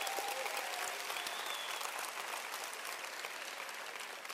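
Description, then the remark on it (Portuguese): A crowd applauds steadily to encourage an engaged couple called up to the front, a dense wash of many hands clapping at an even, fairly loud level that holds for the whole stretch without pause, with faint voices mixed in. “É uma salva de palmas para dar uma incentivada neles ali, ó.”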